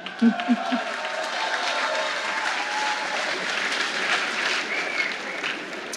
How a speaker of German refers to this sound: Freuen wir uns nun auf ihn und danken wir ihm, dass er heute hier bei uns ist in Ried, mit einem herzlichen Applaus. Hier ist er, hier ist unser Vizekanzler HC Strache.